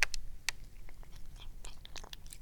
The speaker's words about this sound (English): Yeah, okay, so the kitty is smelling the food. The kitty is eating the food. Who wants to listen to my cat eat some food?